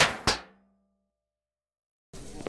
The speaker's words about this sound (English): The elevator! Shut that door!